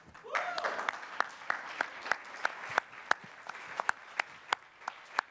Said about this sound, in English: In my notes there, it said pause for applause.